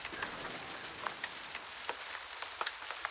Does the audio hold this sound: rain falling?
yes